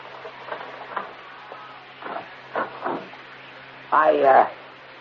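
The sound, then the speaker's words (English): A few metallic clicks and short rattles, then a louder scraping rattle near the end as the chain on a front door slides free and the door opens, over a faint steady hum. “be sure to put the chain on the front door before you open it.”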